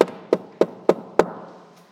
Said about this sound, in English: I wake up because I'm hearing a knock. And then when I woke up, I thought, wow, that's Krishna knocking on the door.